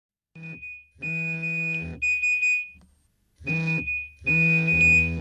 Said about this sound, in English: The everyday sound of a mobile phone alerting its owner to an incoming text message. In the London offices of the World Food Programme, where the message was received, it's a sound heard on and off all day long.